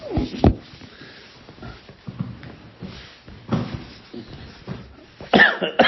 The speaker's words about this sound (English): I have a much tickle cough.